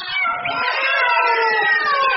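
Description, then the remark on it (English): Several cats yowl together in a long, strained, wavering wail that sounds pained, loud, with no talking. “It now sounds as if the cats are in great pain.”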